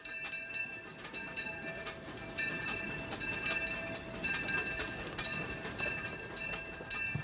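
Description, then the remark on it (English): A Disneyland steam train rolls along the rails at the Disneyland Resort with a steady rumble, punctuated by rhythmic bursts of clatter and sustained high, metallic ringing tones; no one speaks. “I'm the night lead on the Disneyland steam trains, and I really enjoy my job here.”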